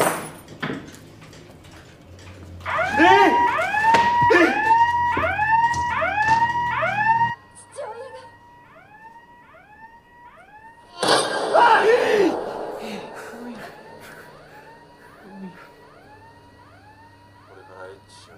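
A shop's burglar alarm, installed that day, wails in a steady run of rising-and-falling electronic whoops, loud at first, dropping softer midway, then surging back with a burst of clatter before fading again.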